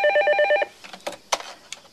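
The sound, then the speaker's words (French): A telephone rings in one short, loud burst with a rapid trilling, warbling tone, then stops, followed by several sharp clicks and clatters like a handset being picked up. “Je te confisque le téléphone demain.”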